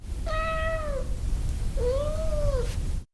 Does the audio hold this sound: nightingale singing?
no